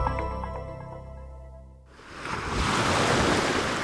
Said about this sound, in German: Einfach nur dem Meeresrauschen lauschen. Für viele Menschen reicht das schon aus, um in den Urlaubsmodus zu kommen.